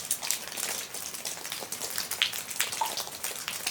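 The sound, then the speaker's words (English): Field recording of melting snow dripping at Elk River: a steady, dense patter of small drops with crisp bright ticks scattered throughout, like light rain, with no voices. “Like the sound of melting snow at Elk River.”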